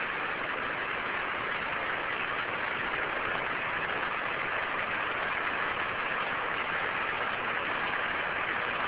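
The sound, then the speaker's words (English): A spacecraft's descent engine runs in a steady, unbroken roar for the whole stretch, loud and constant, with a hissy, band-limited radio quality and no voices over it. “Average speed descent engine is on.”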